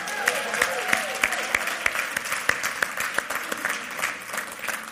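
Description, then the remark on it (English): A crowd at Faith Christian Center applauds the praise and worship team, many hands clapping steadily in a dense wash with some sharper individual claps standing out, and a few faint voices and whoops mixed in beneath. “Before I begin, I'd just like to give another round of applause to our praise and worship team today.”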